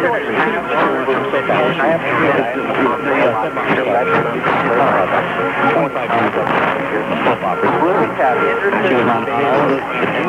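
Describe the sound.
Weak AM radio reception of WGAI's DX test on 560: a muffled, narrow-band voice broadcast buried in steady static and crosstalk from stations such as WHYN Springfield, Massachusetts and WGAN Portland, Maine, with a thin Morse code tone cutting through the interference for the whole ten seconds.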